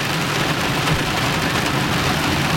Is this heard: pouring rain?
yes